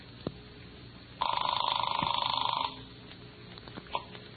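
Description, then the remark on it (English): A single ring of a telephone heard over the line on a call placed through an operator to Washington, D.C.: a steady buzzing trill lasting about a second and a half, fairly loud against faint line hiss with a few soft clicks around it. “Oh, they're ringing now.”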